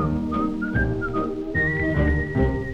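A person whistles a bright, steady melody, holding long notes that step up in pitch, clearly audible over a full instrumental accompaniment.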